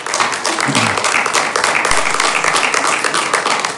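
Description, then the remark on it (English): An audience applauding after hearing from a speaker at a meeting, a dense, steady wash of many hands clapping at once that stays loud and continuous throughout, with faint murmuring underneath. “I let you know that we don't clap after hearing from speakers.”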